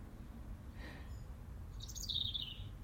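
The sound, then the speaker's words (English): Birds sing in a garden, heard from a shed: a soft call, then a clearer bright trill near the end, over a low steady outdoor hum with no one talking. “Listen to the bird song.”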